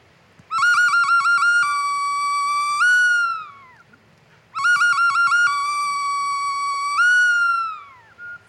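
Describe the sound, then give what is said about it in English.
A small ocarina, a little whistle, plays the same bird-like phrase twice, each opening with a quick warbling flutter, holding a steady bright note, then sliding downward, loud with no talking. “going to do a story using this little ocarina. It's a little whistle.”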